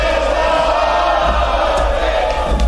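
crowd shouting

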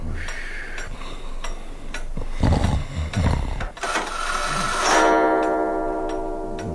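clock ticking

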